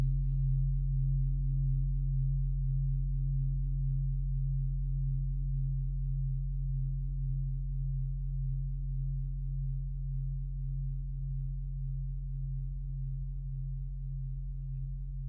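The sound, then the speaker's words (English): Meditation bowls ring in a steady, deep hum, low tones sustained without a break and wavering in a slow, even pulse throughout. The sound is loud and continuous, with no voices. “Listening to the sounds of the bowls, the sacred sounds.”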